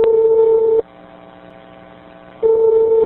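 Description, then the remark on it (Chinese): A telephone line tone sounds twice as a loud, steady beep, each lasting under a second, separated by a longer pause filled with faint line hum, on a recorded investigative phone call to Zhongshan Hospital in Shanghai. No one speaks. “我们再来听另外一段对上海中山医院的调查电话录音。”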